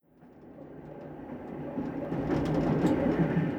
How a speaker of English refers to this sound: On the train.